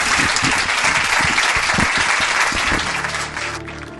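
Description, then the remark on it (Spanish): A sustained burst of audience applause for the hostess, dense clapping from a sizable crowd of people from different parts of Spain, loud and steady before thinning slightly toward the end as a low tonal hum emerges beneath it. “Os pido un aplauso para allá”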